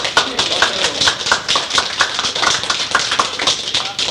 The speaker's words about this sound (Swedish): Vi har en liten applåd till det.